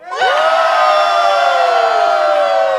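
A large crowd yells together at full volume, shouting as hard as they can, a sudden roar of many voices that starts at once and holds steady and loud for a few seconds.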